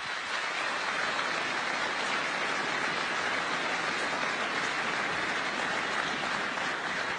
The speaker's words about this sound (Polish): Ogromne brawa dla Państwa.